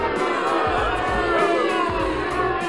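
A crowd roars and cheers in a dense, steady wash of many overlapping voices, loud and sustained without a break for nearly three seconds.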